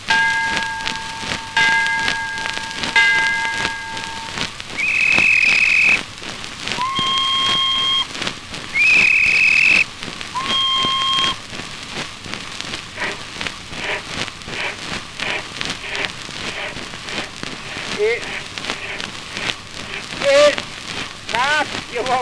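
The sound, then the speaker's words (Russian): A steam train departing a station sounds several steady, high whistle blasts in a short sequence, then a continuous loud hiss and rushing rumble as the locomotive pulls away. “Это, значит, паром, ну и прет.”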